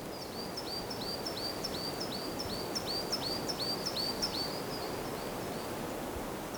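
A bird in a forest repeats a quick, high chirping phrase in a steady run of notes over a constant rustling, breezy outdoor background with no voices.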